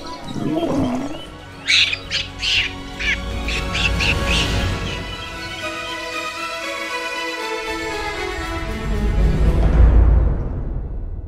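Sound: birds squawking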